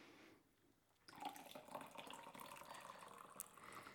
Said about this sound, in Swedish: Och nu jävlar ska jag dricka te. Ja, jag har redan hällt upp. Du får spilla i lite själv där.